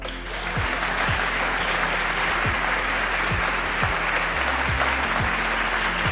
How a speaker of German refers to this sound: Konnten alle Podcast-Hörerinnen und Hörer jetzt natürlich nicht sehen, wie ich diese Showtreppe runtergekommen bin. Für die nochmal einen fetten Applaus, bitte.